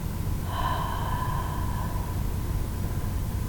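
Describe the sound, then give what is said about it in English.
A deep breath drawn in with a faint whistling tone, then a slow, fading exhale, all over a steady background hiss. Nobody speaks. “Again, big breath in. Hold it, and then slowly out again.”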